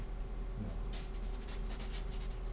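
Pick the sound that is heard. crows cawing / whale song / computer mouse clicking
computer mouse clicking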